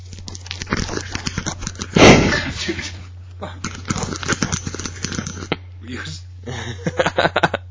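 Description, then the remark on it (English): Irregular bursts of rapid keyboard typing, a patter of sharp little clicks with short pauses between runs, over a steady low hum, with one louder thump near the start. “It's picking up his typing.”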